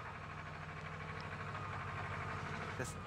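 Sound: tractor engine running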